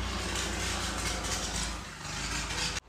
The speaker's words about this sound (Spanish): Yo le doy gracias al Señor por el vecino que no tiene otra cosa de andar en motos que se están cayendo el guardafango.